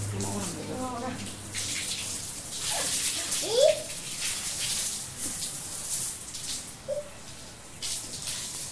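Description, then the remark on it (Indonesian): Water sprays steadily in a broad hissing wash that runs through the whole clip, with a child's voice and brief squeals breaking in now and then. “Semprot yang kering-kering. Semprot sana.”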